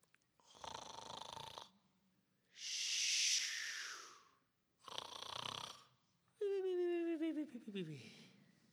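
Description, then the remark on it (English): Loud snoring from a man, Jonah, fast asleep in the innermost part of a ship during a storm at sea: four heavy, rasping breaths in a slow in-and-out rhythm, the last ending in a whistling, downward-sliding snort. There is no talking. “But Jonah had gotten down into the innermost part of the ship and had laid down and was fast asleep.”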